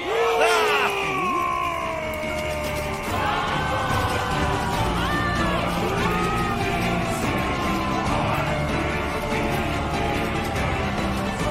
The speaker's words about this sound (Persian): بسیار خوب، حالا فریاد پیروزی سر بدید. خب بالاخره ما پیروز شدیم.